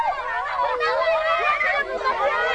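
A lively hubbub of many overlapping high-pitched children's voices chattering and calling out at once as they play, steady, with no single speaker standing out from the crowd.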